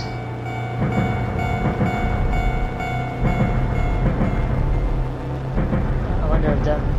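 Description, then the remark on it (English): A steady mechanical train rumble from a train video game, with a low hum and periodic clattering bursts, loud and continuous throughout, with a voice speaking over it. “You know, even he says that it's not a realistic train sound, but I wonder, we don't even know if that's what he was going for or not.”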